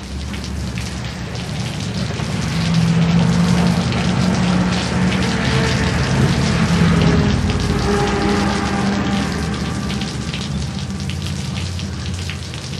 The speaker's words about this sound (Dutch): namen wij op natuurlijk de regenbui.